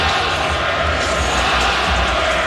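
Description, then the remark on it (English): A large arena crowd at a Knicks–Pistons basketball game chants "flopper" together at Jalen Brunson, a loud, dense wall of massed voices that holds steady for the whole stretch without letting up. “The crowd chanting, flopper, flopper.”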